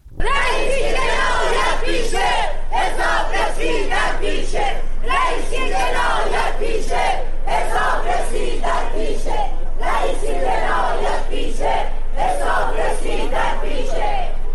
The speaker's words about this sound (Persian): همزمان با برگزاری دادگاه، بسیاری از شاکیان پرونده و خانواده قربانیان کشتارهای دهه 60 با در دست داشتن پرچم‌ها یا تصاویر قربانیان در مقابل دادگاه تجمع کردند و شعارهایی از جمله علیه ابراهیم رئیسی سر دادند.